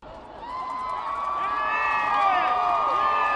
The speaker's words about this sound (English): That was the sound from the crowd on 125th Street when the Jumbotron showed President Obama emerging for the first time. And many of those cheers were coming from people who were playing hooky.